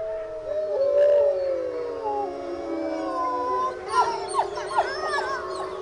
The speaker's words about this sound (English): Very noisy eastern gray wolves live in the mesh enclosures at the Wildlife Science Center in Lake Forest, Minnesota. They're hungry, they're jumpy, they hear a car, they want you to step away from the cage. Sometimes they go on like that all day.